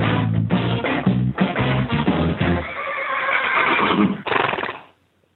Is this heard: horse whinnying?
yes